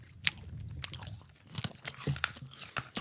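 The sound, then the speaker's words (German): Close, crunchy biting and chewing of a hard candy, with sharp irregular crunches and snaps over several seconds, recorded right next to the microphone with no talking. “gerne näher ins Mikrofon kauen.”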